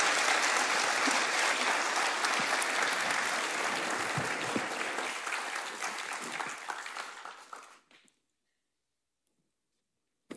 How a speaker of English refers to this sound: Okay. Well, thank you. Can you give these guys a round of applause? Just thank them for their time.